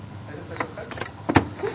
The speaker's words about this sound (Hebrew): אוטובוס.